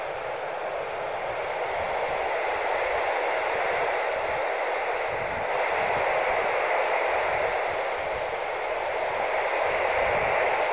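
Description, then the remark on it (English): Steady, dense radio static on a handheld radio being tuned for a signal hisses continuously with no pauses, a broad even wash of noise that swells slightly in the second half, with no voices or clear signal breaking through. “Static together isn't too bad.”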